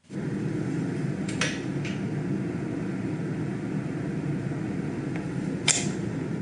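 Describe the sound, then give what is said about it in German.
A paper stapler being pressed: a quick pair of sharp metallic clacks, then a single louder clack after a pause, all over a steady, low rumbling background noise. “Das war so ein Klammergerät, mit dem man Papier zusammenklammert.”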